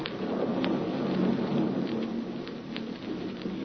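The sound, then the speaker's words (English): Steady, dense rain pours throughout a thunderstorm, with a continuous low rumble of thunder underneath and scattered sharper drops spattering. No voices are heard. “the storm is stopping.”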